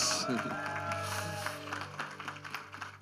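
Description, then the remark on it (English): A crowd claps steadily for about three seconds, a dense wash of applause with a few shouts, while sustained musical tones hum underneath. The people are applauding after a prayer to show their love for Jesus. “One more time, give a big round of applause if you love Jesus.”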